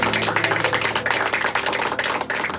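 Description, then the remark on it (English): An audience applauds, a dense wash of many hands clapping at once, steady and fairly loud for the whole stretch with no voices over it. “Goodbye, everybody, and a round of applause.”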